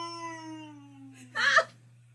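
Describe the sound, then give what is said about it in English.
A person imitates a cow with a long, steady moo-like call that slowly drifts lower in pitch, then breaks off into a short, louder, breathy burst. “Listen to his cow call. It's pretty good.”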